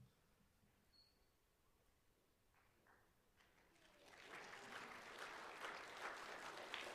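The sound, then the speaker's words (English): Scattered, tentative clapping starts softly around the middle and swells into fuller audience applause as a guest teaching pastor is welcomed up at a church service, many people clapping with no talking. “You weren't sure whether to clap or not, huh? It was that awkward moment.”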